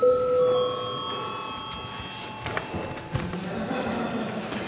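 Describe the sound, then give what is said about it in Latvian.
A single electric parliament bell, rung at the chair's request, rings out at the start, a bright sustained tone with ringing overtones that fades over a couple of seconds, leaving a low murmur and faint shuffling noise. “Lūdzu zvanu.”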